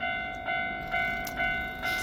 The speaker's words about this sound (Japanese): 今、ちょうど桜の踏切で、桜の踏切を電車が通るというところで、あれですね。